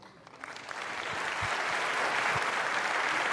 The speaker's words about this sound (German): Bitte begrüßt mit einem sehr, sehr herzlichen Applaus unsere drei Künstler von Übermorgen.